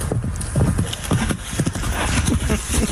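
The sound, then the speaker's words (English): A horse gallops past, running away from a couple of dogs, its hooves clip-clopping in a quick, uneven rhythm of dull thuds that continues steadily throughout, set against a constant hiss of background noise. “Listen, you can hear a little bit. Galloping through.”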